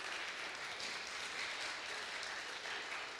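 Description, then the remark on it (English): A crowd applauds steadily for money raised at a hot chocolate sale, the dense patter of many hands clapping at once holding an even level for a few seconds with no voices over it. “Again, just an example of, yeah, we can clap.”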